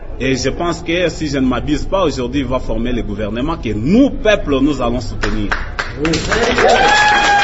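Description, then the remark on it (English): A man speaks animatedly for several seconds, then a room of young men in Goma bursts into loud, dense applause over the final moments, with a whistle rising through the clapping, as he says Etienne Tshisekedi was democratically elected and will form a government. “The room full of young men applaud when he says that Etienne Tshisekedi was democratically elected and he will form a government.”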